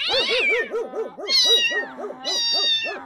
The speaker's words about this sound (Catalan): El gat a miolar.